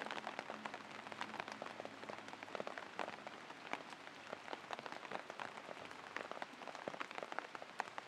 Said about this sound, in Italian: Ascoltando i suoni della pioggia.